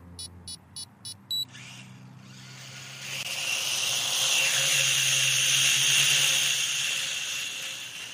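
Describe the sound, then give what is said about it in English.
A small hobby drone weighing about 120 grams, flown outdoors around a car park, chirps with a quick series of short electronic beeps, then its motors spin up into a steady, high-pitched buzzing whine that swells louder and holds, with no talking. “It's just a little hobby drone that costs about £50, weighs about 120 grams.”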